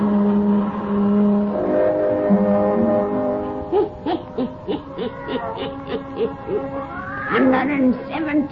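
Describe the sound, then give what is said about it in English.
A black cat named Satan, from Witch's Tale, gives a drawn-out, rising meow near the end. It follows a run of short hooting calls layered over a low, sustained droning tone, with no one speaking. “Weird, blood-chilling tales told by old Nancy, the Witch of Salem, and Satan, her wise black cat.”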